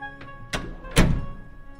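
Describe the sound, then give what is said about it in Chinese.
A door slams shut with a heavy, booming thud, preceded by a faint knock and a sharper bang, the final impact loudest and ringing briefly before fading. No one speaks. “哦，关门小声一点嘛，你又吵醒我了啦！”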